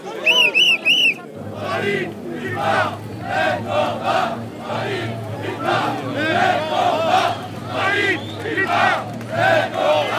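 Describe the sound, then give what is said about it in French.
A large outdoor protest crowd at Place de la Nation cheers and shouts in a loud, continuous roar, with clapping mixed in, applauding arriving Fralib and Pilpa workers, after a few brief high-pitched calls at the very start. “Voilà, les salariés de Fralib et de Pilpa, Fralib, Pilpa, même combat, qui sont chaleureusement applaudis là, à l'arrivée sur la place de la Nation.”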